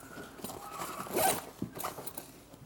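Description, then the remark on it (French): A bag is handled and unzipped: soft rustling and shuffling, then a quick, raspy zipper pull in the middle, followed by more light fumbling. No one speaks. “Je prends mon sac parce que là, je ne peux pas lire comme ça.”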